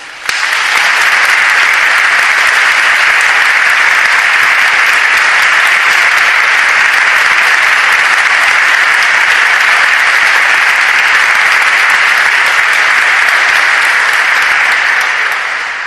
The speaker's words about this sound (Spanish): También quiero tener un recuerdo para un nazareno que ha sido compañero mío y que ha sido también nazareno implicado en la Semana Santa, Juan Antonio Yáñez de Lara, para el que pido un aplauso.